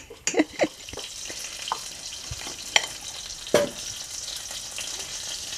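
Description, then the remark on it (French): Crêpe batter with leaves, made into fritters, sizzles in hot oil with a steady bright hiss, broken by scattered pops and a few sharper crackles and clicks, mostly in the first seconds. No one speaks. “Et puis, on va faire des beignets avec ça.”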